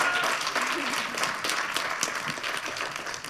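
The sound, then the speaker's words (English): A crowd at a panel event applauds the performers steadily with many hands clapping at once, a dense, even wash of claps that holds at a fairly loud level for a few seconds without letting up. “And while every single one of them got a nice applause from you, and thank you for this, because I really like that, we'll give you a big applause now for everybody.”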